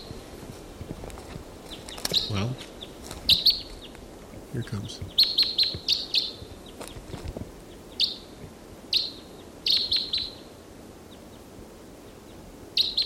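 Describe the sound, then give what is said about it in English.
Short, high-pitched flight calls from a wild bird repeat in quick bursts of two or three notes throughout, while a person briefly speaks and soft footsteps and rustling sound underneath. “According to the wild bird that was in song is still around, giving flight calls.”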